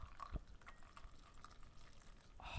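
Coffee is poured into a preheated 250-milliliter double-walled glass, a soft continuous trickle with faint splashing and a brief knock near the start, rising slightly at the end as the glass fills.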